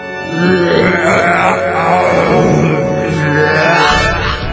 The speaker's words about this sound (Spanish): soltó un eructo de proporciones gigantescas que hizo despeinar a todo el pueblo.